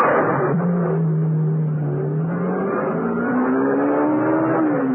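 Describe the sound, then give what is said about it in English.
A sports car engine revs and pulls away, its pitch climbing steadily as it accelerates over several seconds, loud the whole time with no voices. “Minutes later, Martha joined Bromfield in the sports car.”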